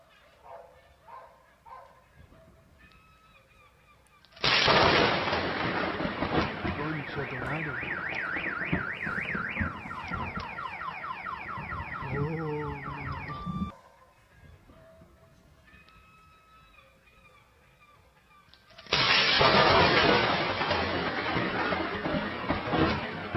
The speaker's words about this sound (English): This thunderstorm is so violent that when it strikes this neighborhood, and if you listen, you'll hear that, it sets off the car alarms.